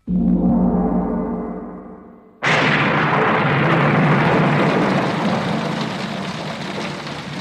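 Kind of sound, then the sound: nature, heavy rain pouring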